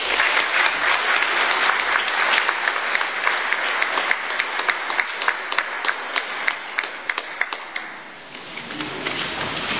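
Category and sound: crowd, applause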